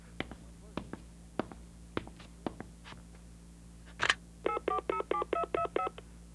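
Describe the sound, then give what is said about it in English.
A borrowed phone's keypad being dialed: a steady run of about eight short touch-tone beeps in quick succession, preceded by a series of soft, evenly spaced clicks and taps. “Now, if I could borrow your phone and have a few minutes of privacy?”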